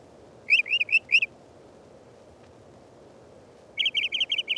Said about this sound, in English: The Mockingbird is a favorite, singing an ever-changing medley, often repeating each phrase 3 to 5 times.